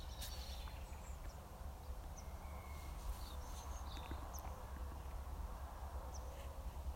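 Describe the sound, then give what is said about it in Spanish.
Scattered bird chirps ring out over a steady low outdoor rumble of a car passing in the distance, with no one talking. “Oigo pájaros y algún coche a la distancia.”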